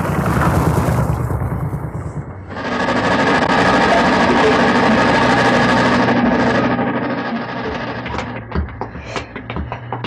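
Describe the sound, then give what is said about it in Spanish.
A loud, steady engine of a modern, powerful motorboat drones with a rough, throbbing hum, then eases down and sputters toward the end as the boat docks at a pier on Macedonia island in the Cyclades, Aegean Sea, with a few knocks and bumps as it settles. “Miklos Rogasis detiene en un embarcadero la moderna y potente lancha motor, con la cual ha realizado un recorrido en compañía de Banda y del secuestrado doctor Hans Bailey.”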